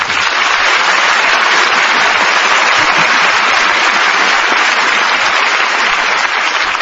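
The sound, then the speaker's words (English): Sustained, dense applause from a large studio audience at the Lux Radio Theater as stars Van Heflin and Janet Leigh come down stage, filling the whole stretch, steady and loud with no voices rising above the clapping. “Well, I think that applause says it all.”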